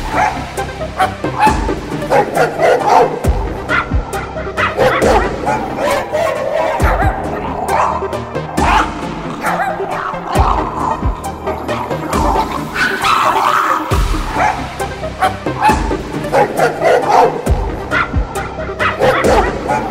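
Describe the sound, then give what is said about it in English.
Five elderly chihuahuas wearing dresses bark and yip frantically in a continuous, overlapping chorus, loud, with high-pitched yaps and occasional whimpers filling the whole stretch. “5 elderly chihuahuas wearing dresses. Freaking the fuck out.”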